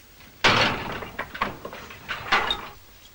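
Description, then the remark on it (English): A heavy prison cell door clangs shut with a sharp, loud metallic impact as a guard locks a prisoner in, followed by a series of rattling clicks and clunks as the lock is worked, with no one speaking. “McGinty steps in, and the door is locked.”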